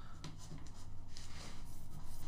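tool, pen writing on paper

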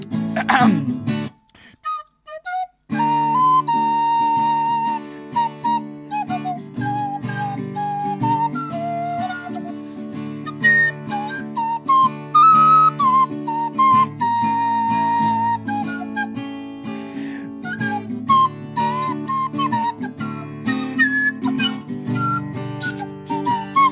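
human body sound, human whistling a tune

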